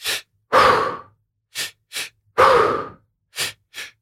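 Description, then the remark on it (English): Forceful, rhythmic breathwork: two quick, sharp inhales followed by one long, heavy exhale, repeating in a steady cycle with no talking. “But if anybody's done like serious breath work, first of all, it's like a full-time workout because you're breathing really intensely. It's like two breaths in, one breath out.”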